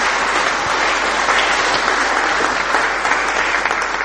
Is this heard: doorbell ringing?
no